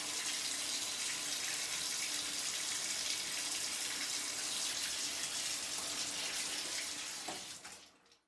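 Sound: running water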